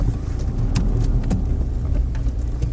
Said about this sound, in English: We're now parking in the car park.